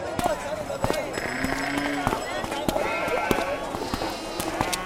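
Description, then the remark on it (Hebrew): Sheep and goats bleat in wavering, nasal calls, a couple of drawn-out cries rising over a busy backdrop of clattering hooves and scattered knocks, moderately loud, as a sheep and a goat are held by people climbing the stairs up to the Temple Mount. “אתה תחזיק את הכבשה ואני אחזיק את העז”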